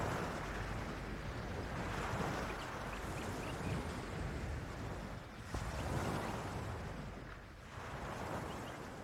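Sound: ocean waves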